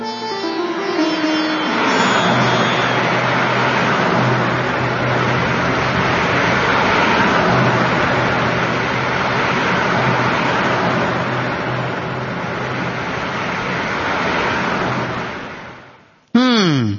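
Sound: car being driven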